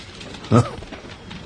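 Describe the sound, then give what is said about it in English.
A single short bird call, like a pigeon's coo, sounds once over a faint, steady background hiss, then fades quickly into quiet noise. “Not the prettiest birds alive.”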